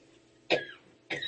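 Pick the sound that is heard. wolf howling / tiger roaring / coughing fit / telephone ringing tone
coughing fit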